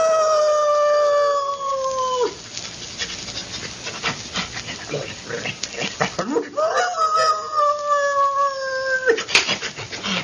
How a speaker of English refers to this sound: And later, when the ashes had cooled and while Sheriff Skinner was consoling Dr. Glazier on his loss, the sheriff's dog